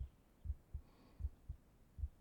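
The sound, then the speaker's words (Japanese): A muffled heartbeat, heard as if during a tight hug, thumps in a steady lub-dub rhythm, about three double beats, low and soft against a faint hum with no voices. “そんな時は抱き枕のお姉さんがぎゅーってして、ほら、心臓の音って落ち着くでしょ。お母さんのお腹の中にいるみたいで。”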